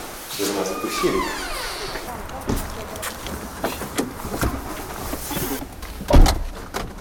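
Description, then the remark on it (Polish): A door creaks with a drawn-out squeak, then shuffling noises and a single heavy thud as it shuts, with muffled voices in the background. “Powiedziałeś, że drzwi mamy? Co mamy? Drzwi.”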